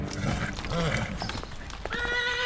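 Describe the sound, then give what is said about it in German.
Untethered horses left with an abandoned horse-drawn cab snort and whinny while hooves clop unevenly on a hard surface, with a high, tonal neigh toward the end over a busy background. “Er hat seine Droschke einfach zurückgelassen. Nicht mal die Pferde sind angebunden.”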